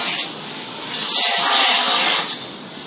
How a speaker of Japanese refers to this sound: すみません、ちょっと工事中の前を通ってうるさい。